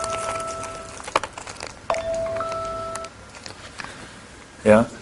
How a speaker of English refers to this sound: Oh, the timer.